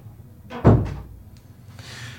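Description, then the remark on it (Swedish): A door thuds shut with a solid knock during an interrogation, as someone comes in to ask about coffee, followed by a faint click and a soft brushing rustle as it settles, with no voices present. “Ja, det var en som kom in genom dörren och frågade om vi ville ha kaffe.”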